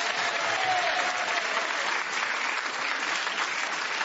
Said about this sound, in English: But only 3 points ahead was Clement Freud, so we say, Clement, you are the winner on points this week. Another round of applause for Clement.